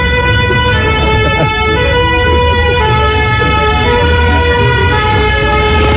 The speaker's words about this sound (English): We got one last siren to play for you. Ah, good. One last French police car going by.